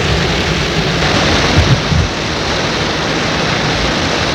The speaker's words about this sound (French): Vent, la pluie fait toujours rage.